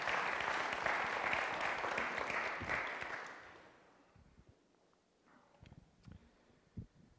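An audience applauds steadily for about three seconds, a dense crackle of many hands, then it quickly dies away, leaving a few faint scattered claps and soft knocks.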